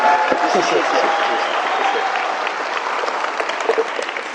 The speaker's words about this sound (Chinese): 所以接下来让我们用最热烈的掌声还有欢呼声欢迎汤牧师，我们把荣耀归给主，阿们。